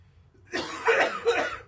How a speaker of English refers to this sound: Hold on. Let me hit the cough button again.